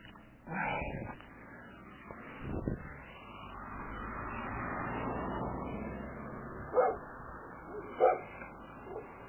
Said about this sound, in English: I hear you, pup. Hey, take it easy. I'm not on your property. Stay off, dog.